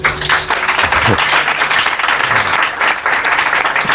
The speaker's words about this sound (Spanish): Y me gustaría mucho que dan a sus mismos un aplauso, por favor, porque